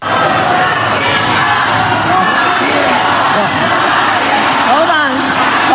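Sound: rally crowd chanting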